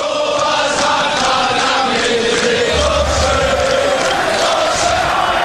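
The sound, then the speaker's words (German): A loud, dense roar of Hamburger SV (HSV) football fans cheering and chanting at a Bundesliga match, a sustained wall of crowd noise with rhythmic surges throughout and no break or quiet moment. “Die Fans des HSV kommen gar nicht aus dem Jubeln raus.”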